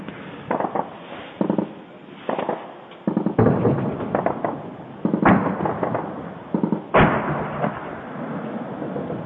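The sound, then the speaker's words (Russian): A series of explosions from shelling in the settlement of Trudovskie, about a dozen irregularly spaced booms and cracks over several seconds, a few much louder and sharper than the rest, with no talking. “Ну а сейчас-то, вот сейчас только что улетело.”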